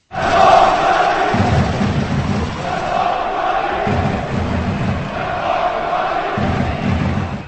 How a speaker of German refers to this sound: Nach dem Auftaktmatch durften also die Fans aus Karlsbad jubeln.